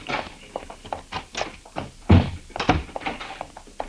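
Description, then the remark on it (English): A door is pushed open with a dull, solid thunk, followed by a second heavier knock and a scatter of quieter taps and footfall-like shuffles. “The door's open.”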